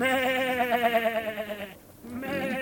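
A sheep on a farm bleats in a long, quavering cry as it is given hay, pauses briefly, then starts another wavering bleat that runs to the end.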